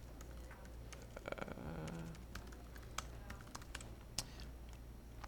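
Scattered clicks of computer keyboard keys being pressed to move a character around in a video game demo, irregular taps spread across a few seconds over a steady low hum, moderately quiet, with no talking.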